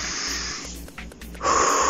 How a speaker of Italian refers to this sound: Stendiamoci supini sul tappetino, stendo bene le gambe e porto le braccia sopra la testa, mi rilasso e stiracchio tutta la colonna vertebrale. Respiro bene, Via, respiro.